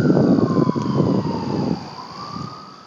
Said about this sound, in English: Urban density. You always hear a fucking siren somewhere off in the distance.